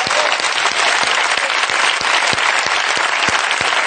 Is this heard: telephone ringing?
no